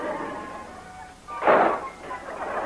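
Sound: door slamming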